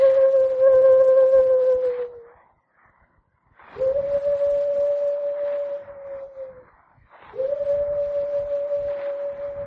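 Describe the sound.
A person imitates a bird call with three long, steady hooting tones, each held for about two seconds with short pauses between, mid-pitched and fairly loud, with no talking.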